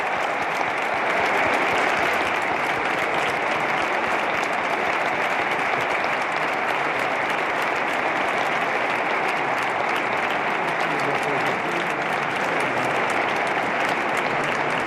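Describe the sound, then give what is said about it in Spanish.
An audience in a cathedral bursts into sustained applause at the end of Holy Mass, the new bishop applauding too. A dense, steady wash of many hands clapping at once holds evenly loud for about fifteen seconds with no speech over it. “Bueno, termina la Santa Misa, que finaliza con este aplauso, ¿no?, que hace estallar a todos los presentes.”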